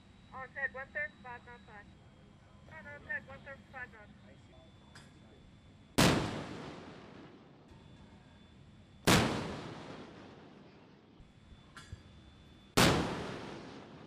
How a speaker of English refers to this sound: 5-inch cannon is the first to fire.